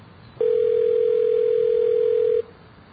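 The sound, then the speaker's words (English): A telephone ringing on the line: one steady, two-second ringback tone, a flat low hum heard through the receiver over faint line hiss, with no one speaking. “It's ringing.”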